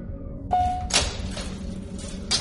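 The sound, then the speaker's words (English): A short electronic tone gives way to a mechanical hiss and whoosh as an elevator's sliding door glides open, fairly loud, with a soft thud at the end and no voices. “And here's the elevator, right where it should be. Best luck we've had in a while. Keep your blasters trained on the door.”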